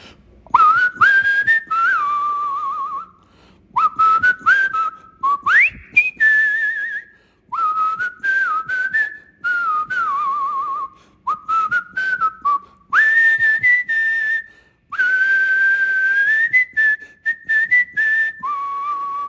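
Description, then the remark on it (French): A person whistles a catchy pop melody, clear, in short phrases separated by brief pauses, with no talking over it. “Donc, pour une grande première, et pour pas longtemps, on parle de, laissez-moi 15 à 30 secondes, je vais couper mon fond musical pour vous siffler,”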